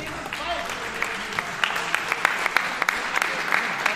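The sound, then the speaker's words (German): A crowd applauds steadily for several seconds at the Rookie Rumble fight event, dense clapping with sharp individual claps popping out of the wash, sustained at a fairly even loudness throughout. “Herzlichen Applaus.”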